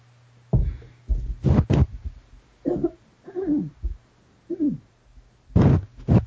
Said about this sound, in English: But anyway, excuse me, I clear my throat.